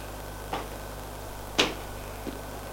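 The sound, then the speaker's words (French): A drawing-room door is shut with a sharp click after someone enters. A softer knock on the door comes just before and a faint tap after, all over a quiet, steady room hum with no voices. “Le fait rentrer, ferme la porte derrière lui.”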